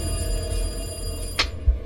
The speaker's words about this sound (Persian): حس می کردم الان هست که دیگه گوشم کر بشه. باورتون نمیشه ولی با هر بار زنگ تلفن انگار تمام وسایل خونه می لرزید. برقای خونه ضعیف و قوی می شد. دیگه آخراش حس می کردم از همه دنیا داره صدای تلفن میاد.